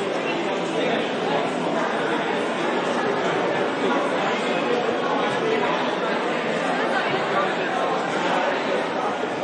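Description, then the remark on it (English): A dense theme park crowd at rope drop at Walt Disney World Resort murmurs and chatters continuously while walking, the Soarin' crowd being led by cast members over to the land at about ten to nine; a steady wash of many overlapping voices with no single speaker standing out, holding an even loudness throughout. “This is the Soarin' crowd walking over to the land, being led by cast members.”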